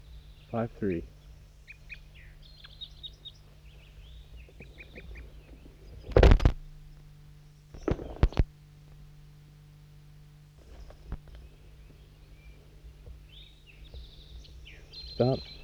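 Recorded at 7:11 a.m. at a hilltop net site, a bird called 5-3 calls to wild birds that have just arrived. Bursts of short, high chirping come and go over a steady low hum, broken by a couple of sharp, loud thumps midway through.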